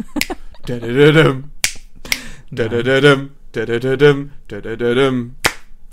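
Sharp, crisp hand claps land in a steady rhythm between and under sung phrases of a song, fairly loud, punctuating the melody roughly once a second.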